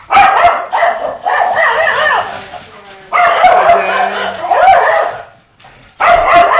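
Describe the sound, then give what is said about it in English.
A dog barks loudly in rapid, tumbling bursts mixed with higher yips and whiny notes, pausing briefly twice before starting up again. “I've actually got a some post-processing that I do now to take back the barks down.”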